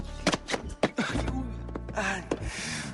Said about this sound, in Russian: Ай, давай, ты что, сильно ударился, а? Я ударился. Давай, я тебе помогу, вставай, держись за меня.